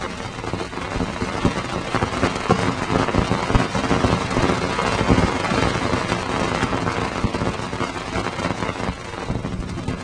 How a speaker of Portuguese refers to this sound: Esse som é causado por milhares de impactos das partículas dos anéis nas placas da sonda, que geram pequenos booms, explosões de plasma, que são posteriormente convertidos em som audível.